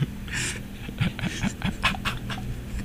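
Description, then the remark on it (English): A dog pants quickly and steadily on a walk in a neighborhood, a run of short breathy huffs in a fast rhythm, with a faint whimpery tone mixed in and no one talking. “Arf, arf, arf, arf. Bark, bark.”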